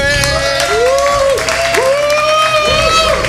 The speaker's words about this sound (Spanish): El público de Madrid tiene que votar si prefiere que gane el equipo de Dani Piqueras y Nacho García o el de Eva Soriano y Alba Cordero. ¡Aplauso para el equipo de los chicos!